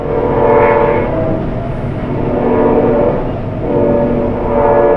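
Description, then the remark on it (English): A train rumbles steadily past nearby in the middle of the night, around 3:45 a.m., heard from a home near the train line, a dense low roar with clattering wheels and a faint horn-like tone, loud and continuous for the whole stretch with no voices. “I asked because I live near the same train line, about 30 miles north, and here's what it sounds like at my place in the middle of the night.”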